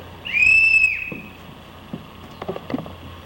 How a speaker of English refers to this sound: That's a whistle. Samir found the whistle.